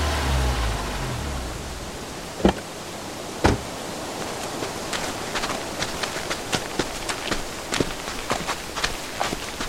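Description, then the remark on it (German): A low engine rumble fades as a car with its lights on pulls up out of the darkness and stops, then two solid door slams ring out a second apart, followed by quick footsteps crunching over a steady background hiss. “Dann tauchten plötzlich Lichter aus der Dunkelheit auf. Ein Wagen hielt und Autotüren wurden zugeschlagen.”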